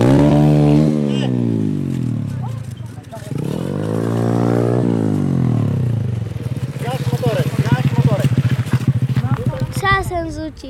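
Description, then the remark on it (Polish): A mini speedway motorcycle with a 125 cc MRF engine revs loudly up and down, its pitch sweeping high then dropping, with voices joining over the droning engine near the end. “Tak, to jest rama, mini motorek żużlowy.”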